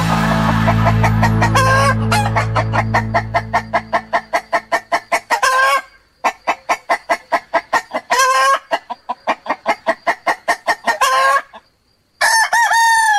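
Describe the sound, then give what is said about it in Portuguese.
A rooster crows loudly several times, each long call set against a steady run of rapid clucking, with a low droning hum at the start that fades away. “Canta o Galo”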